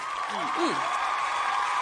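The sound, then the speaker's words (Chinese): Steady, dense audience applause fills the whole stretch at moderate volume, a continuous wash of clapping with a brief low gliding vocal sound near the start, given as a contestant's turn in a contest ends. “再次把掌声 结束 送给你。”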